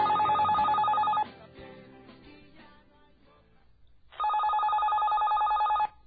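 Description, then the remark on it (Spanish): A loud telephone rings in two bursts, a rapid trilling electronic ring lasting about a second, then a pause with faint background noise before a longer second ring. “Carlos, mi amor, contesta el teléfono.”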